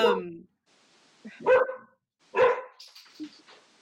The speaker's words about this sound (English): Is that your dog, Angie? I'm babysitting three dogs.